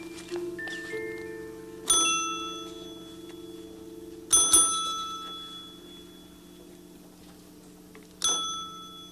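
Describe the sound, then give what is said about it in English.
A small bell at a door rings three separate times at uneven intervals, each bright metallic strike ringing out and fading, over a steady low hum with no talking. “I'll ring her bell.”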